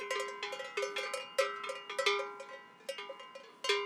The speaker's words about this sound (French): Elle fera sonner la cloche, elle fera aller la tête, donc on la trouvera. Et en haute montagne, les cloches sont bénéfiques parce que lorsqu'il y a de la brume, on peut situer les bêtes à la cloche.